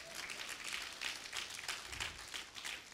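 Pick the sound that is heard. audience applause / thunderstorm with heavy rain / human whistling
audience applause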